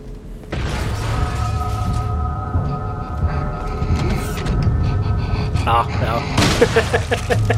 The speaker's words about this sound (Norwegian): Ja, nå blir han skutt da. Den hvis dere hørte den pustelyden, den der. Han som har spilt Resident Evil 4 kjenner jo igjen dette. Ja, det er en regenerator for Resident Evil 4.